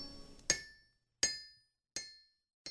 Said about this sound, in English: At my feet, my father's anvil, his striking song of steel on steel, still hammering home.